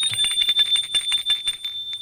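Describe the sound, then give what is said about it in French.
A doorbell at a flat on the second floor of an old, run-down building at the corner of rue Garibaldi and boulevard des Belges rings continuously for about two seconds, a rapid metallic rattle over a steady, shrill high tone, with no voices. “Polycarpe sonne.”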